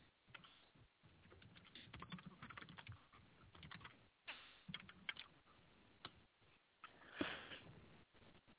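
Rapid, uneven clicking of keys on a computer keyboard, a steady flurry of typing with brief pauses between bursts and no voices.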